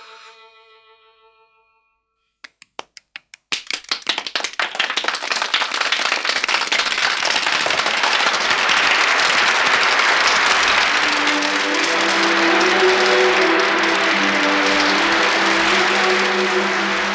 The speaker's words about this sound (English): All over the world, children clapped, and as they clapped, Tink's light grew stronger, and she popped out of her bed and flashed through the room, merrier than ever.